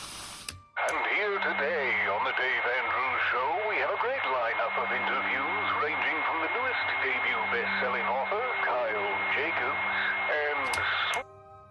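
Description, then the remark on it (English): An AM radio clicks on and plays a tinny, narrow-band voice broadcast with a steady high whistle over it for about ten seconds, then clicks off abruptly. “He flipped the radio to the AM setting.”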